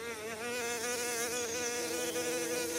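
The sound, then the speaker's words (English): Bees buzz steadily as they fly around looking for food, a dense droning hum that wavers slightly in pitch, continuous for the whole stretch with no voices. “This is what they sound like when they are buzzing or flying around looking for food.”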